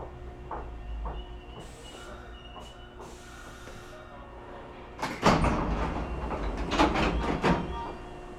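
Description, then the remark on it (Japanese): Inside a train car stopping at a station, a low steady rumble and brief hissing bursts give way to a loud, clattering rush as the sliding doors open, with air hissing and metallic knocks. “側の扉が開きます。ご注意ください。”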